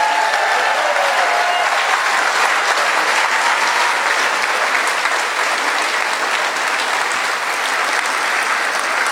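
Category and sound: crowd, audience applauding warmly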